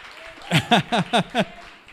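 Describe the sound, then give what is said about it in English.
A church audience applauds in five loud, evenly spaced bursts, like rhythmic clapping in unison, with voices mixed into each beat before it fades to a quiet murmur. “Give a hand of applause, church.”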